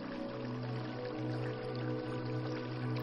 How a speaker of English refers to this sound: You walk through the path in some cowboy boots, your summer swim set and robe, and you reach the glistening, running spring water creek.